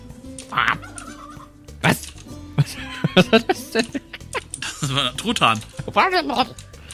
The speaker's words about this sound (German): Was? Was war das denn? Das war Truthahn. Der Turkey.